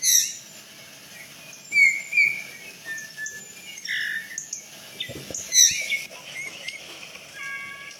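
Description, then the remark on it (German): A finch sings a flute-like, whistling song in short, clear phrases separated by brief pauses, moderately loud against a faint background hiss, with no voices. “Er hat ein überraschend flötenden Gesang, den hören wir gleich mal.”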